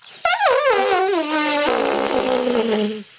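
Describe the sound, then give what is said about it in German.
A long, loud fart sound, buzzy and strongly tonal, wobbling in pitch before sliding steadily lower over about three seconds, heard alone without any talking. “Das war jetzt aber eher... ein Elefant, oder?”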